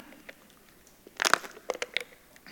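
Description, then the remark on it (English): Thin plastic water bottle crinkling during a church sermon: a loud burst of sharp crackles in the middle, followed by several quieter, scattered crinkles and pops. No voices are heard. “They just don't make water bottles like they used to. You know what? So thin the plastic. It makes so much noise.”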